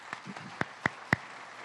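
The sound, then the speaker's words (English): A handful of scattered hand claps at a San Francisco recognition ceremony, a round of applause for the anthem singers, the SFPD Color Guard and the supervisors, sharp and irregular, about four distinct claps in under two seconds over a faint background hiss, with no speech. “A round of applause for all of them, please.”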